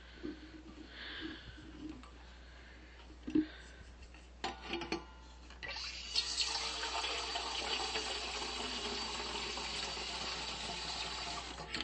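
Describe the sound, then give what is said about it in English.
A few soft clunks and knocks, then a steady, hissing rush of tap water pouring into an electric kettle, running continuously for the last six seconds with no one speaking. “Oh, let's put the kettle on.”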